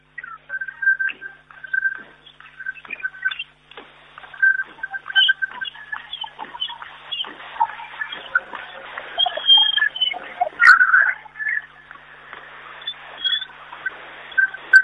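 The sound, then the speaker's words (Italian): A crowd whistling from the stands at the Palafabris as Verona takes the third set 23-25, in a dense, shrill chorus, many overlapping high-pitched tones warbling and sliding without a break throughout, loud and sustained, with no voices on top. “Ancora Anzani, piovono fischi naturalmente dalle tribune, su Balasso, single, 23-25, e Verona si porta a casa il terzo set.”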